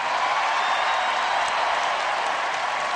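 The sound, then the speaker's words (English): A large crowd at the Democratic Convention in Denver cheers and applauds Ted Kennedy's address in a dense, steady roar that holds at the same loudness for the full three seconds, with no voices standing out. “Cheers and tears at the Democratic Convention in Denver last night, hearing Ted Kennedy in kind of a valedictory address intone those words.”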